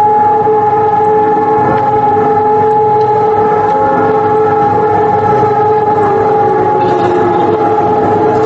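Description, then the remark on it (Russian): Steady, droning sirens wail continuously across a wide open area, their sustained tones layered and echoing, sounding in many cities across Poland at 8:41 a.m. while traffic and pedestrians stop in the streets, with no voices present. “Всех, однако, заставляет на минуту остановиться и объединяет вой сирен, который раздался во многих польских городах в 8 часов 41 минуту.”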